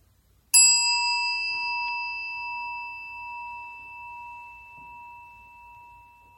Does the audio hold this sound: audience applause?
no